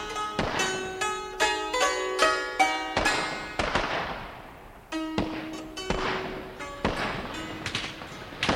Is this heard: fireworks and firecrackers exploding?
yes